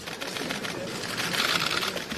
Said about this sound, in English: It was quiet except for the sound of cameras clicking as German Chancellor Angela Merkel walked through the metal gates of Auschwitz.